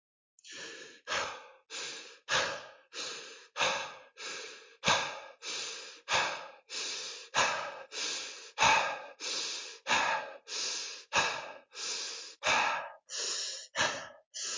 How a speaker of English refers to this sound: And the idea is, notice there was no pause in or out. You're doing it constantly, or either breathing in or breathing out constantly. So let's do that just for 30 seconds.